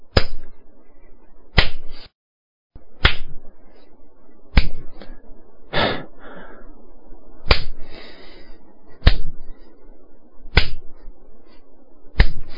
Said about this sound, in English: I'll just wait here, slapping myself in the face until you return.